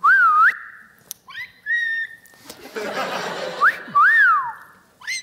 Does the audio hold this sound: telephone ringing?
no